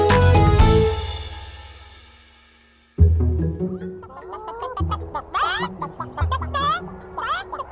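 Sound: chicken clucking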